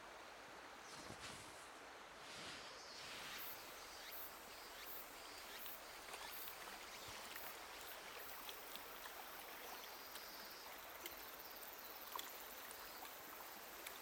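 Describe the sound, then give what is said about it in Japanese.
A steady, gentle rush of flowing river water fills the whole recording, soft and continuous like a stream, with no voices and only slight shifts in texture. “素足になって川に入れてみてください。”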